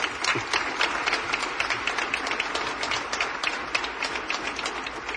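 A crowd claps steadily throughout, a dense, sustained patter of many hands at moderate loudness with no voices standing out.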